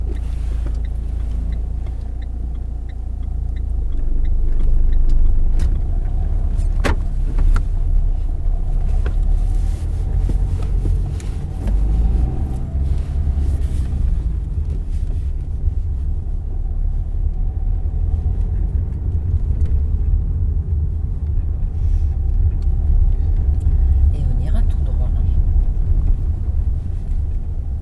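A car drives steadily with a deep, continuous engine rumble that fills the whole recording, with occasional faint clicks and knocks and no voices.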